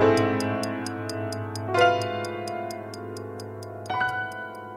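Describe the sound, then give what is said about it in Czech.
A clock ticks in a steady, quick rhythm, about three crisp ticks per second, over sustained low tones that swell twice. No one speaks. “Satovi.”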